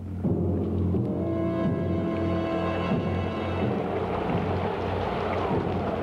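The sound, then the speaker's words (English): A bad storm at sea around a sailing ship, with hard-blowing wind, steady rain and deep rolling thunder, loud and continuous throughout, with a low sustained tonal hum running beneath it and no voices. “God sent a bad storm. The wind blew hard.”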